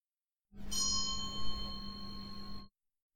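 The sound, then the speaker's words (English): A single bell rings out with a full, shimmering tone, holding steady for about two seconds before stopping abruptly. No voices accompany it. “A bell rings, and we get up and find our way to ourselves again.”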